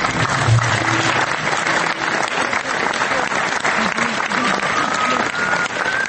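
At the Belgrade premiere of the film Drugi susret, a full audience in the hall of Dom omladine breaks into sustained applause at the end of the screening: a dense, steady clatter of many hands clapping for several seconds, with faint voices mixed in beneath it.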